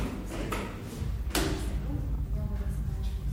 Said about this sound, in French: Pousse un peu la chaise.